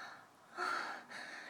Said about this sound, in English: I hear you panting. I hear you moaning.